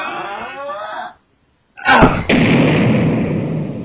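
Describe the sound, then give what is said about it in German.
A door is pushed and rammed in by two people and broken: a rough, noisy scraping stretch gives way to a brief silence, then a loud burst of impact, a second crash and a sustained rush of splintering noise. “Wer hilft mir noch, die Tür einzustoßen?”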